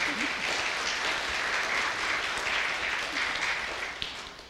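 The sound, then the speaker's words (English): A crowd at a family ceremony with godparents applauds steadily for a boy after his promise to care for his sister, a dense wash of many hands clapping at even loudness for several seconds before tapering slightly at the end. “I think he deserves a round of applause for that.”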